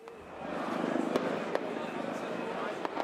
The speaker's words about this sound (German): Als die Sonne untergeht und sich der Himmel rötlich färbt, veranstalten Unbekannte in der Nähe des Demonstrationszuges ein Feuerwerk und zünden Böller.